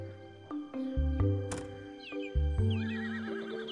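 A horse whinnies in a long, wavering neigh that rises and trembles, with a sharp snort or thud partway through, moderately loud, with no voices present.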